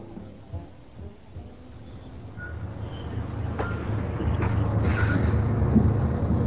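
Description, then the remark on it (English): A bus's low engine rumble grows steadily louder as it approaches, with a few brief squeals and hisses as it slows to a stop; the bus is headed to Riverdale. No one speaks. “Is this bus going to Riverdale?”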